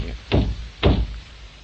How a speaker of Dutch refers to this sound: Klop eens aan de andere zijde van de cabine